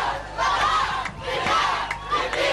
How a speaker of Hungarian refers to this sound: Lelkünket, vérünket áldozzuk értett Saddam. Ezt már a volt diktátor szülővárosában skandálta tegnap a tömeg. Tikritben és Kirkukban a volt elnök felelősségre vonása ellen tüntettek.